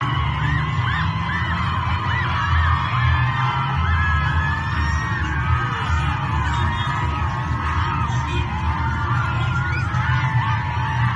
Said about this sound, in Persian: امروز در کرمانشاه بچه ها از مدرسه ریختن بیرون، ببینید چه شعاری سر میدهند.